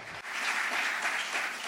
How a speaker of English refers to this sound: So I thank you all. I thank the panelists. Let's give them a round of applause to thank them for their contribution.